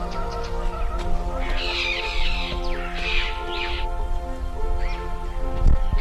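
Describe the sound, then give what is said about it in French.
Harsh, raspy bird calls sound in a few separate bursts, a couple of loud caws in the middle, over a steady low hum and background noise with no talking. “Quelquefois dans ces lieux, il y a des oiseaux.”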